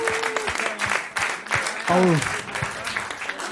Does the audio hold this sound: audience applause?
yes